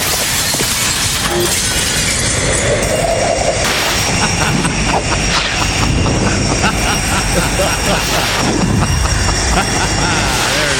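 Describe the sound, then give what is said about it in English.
A loud, dense roar of rushing air and engine noise with sharp shattering crashes and debris clatter, a recreated sound effect of a jet airplane window breaking, sustained chaotically throughout. “Did you find a sound effect of a jet airplane window breaking?”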